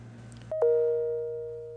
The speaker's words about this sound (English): There goes the bell. I'll get it.